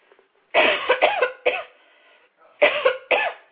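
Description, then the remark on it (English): A loud bout of coughing: three harsh coughs in quick succession, a brief pause, then two more sharp coughs, with no talking. “Excuse me, I've got a cough”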